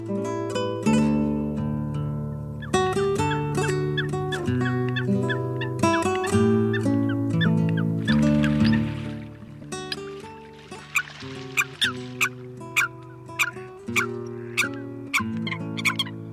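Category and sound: bird, eurasian coot calls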